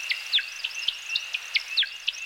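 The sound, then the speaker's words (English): A male American woodcock's (timberdoodle's) display call: a rapid, uneven series of high, thin chirps and twitters over a steady high whistling tone. The sound is fairly faint, with no voices. “The woodcock's odd looks and sounds have earned it many colorful nicknames.”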